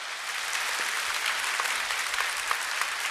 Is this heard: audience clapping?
yes